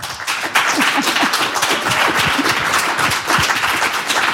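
A steady burst of applause welcoming a guest in the Radio 1 studio, dense overlapping claps forming a loud, even wash of sound that carries on without a break for several seconds, with no voices over it.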